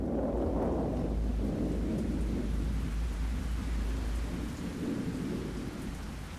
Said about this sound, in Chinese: 一天又一天，低垂的乌云从东方飞来，翻过山谷，不停地下着大雨。